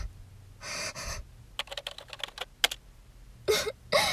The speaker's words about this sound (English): Let me just type it in.